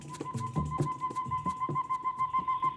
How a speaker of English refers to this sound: I like those birds. They were recorded in the Motto Grosso.